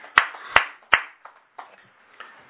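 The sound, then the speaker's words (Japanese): Brief applause at a Konko church gathering celebrating a boy's 14th birthday: three loud, sharp hand claps about half a second apart, followed by a scatter of softer, uneven claps that trail off. No voices. “盛大な拍手でお祝いをしてあげてください。”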